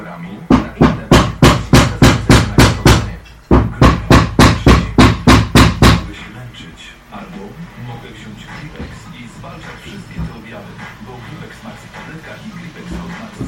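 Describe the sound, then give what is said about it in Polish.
A power tool cutting through a door frame so the door can be shifted slightly, the cutting smelling of metal, giving off a fast, steady run of loud, sharp rattling strikes for several seconds with one brief pause, then stopping and leaving only low background noise. “Tak działa sprzęt do cięcia futryny, bo wycinamy też, żeby właśnie przesunąć trochę drzwi.”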